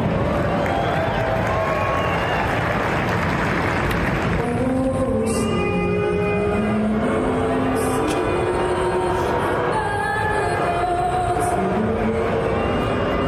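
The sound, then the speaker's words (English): A large arena crowd at a Toronto Raptors basketball game boos in a loud, sustained roar. After a few seconds a solo voice starts singing The Star-Spangled Banner as a slow melody while the booing continues underneath. “You know, I mean, when in Rome, you know, everybody's booing the song.”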